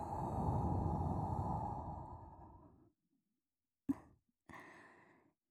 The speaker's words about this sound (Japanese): 生暖かくて、お耳にねっとりまとわりつくような吐息。